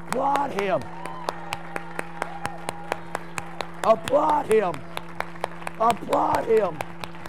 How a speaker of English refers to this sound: And when he came down, clap your hand.